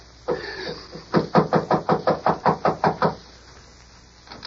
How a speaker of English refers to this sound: Let's go. Knock on the door, Hegan. This Carter woman's a maniac.